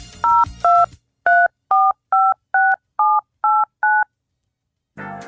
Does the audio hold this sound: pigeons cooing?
no